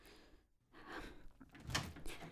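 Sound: door being opened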